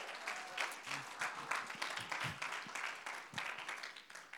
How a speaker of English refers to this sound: God is about to do something from this message in your life. You will never be the same. Somebody clap your hands and bless God.